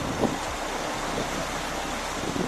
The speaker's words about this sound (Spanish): No solo viento, también lluvia y nieve están haciendo acto de presencia. El viento silba a esta hora en Valdezcaray y la nieve golpea así el suelo.